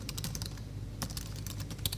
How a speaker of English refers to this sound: I'll get to that once I finish typing.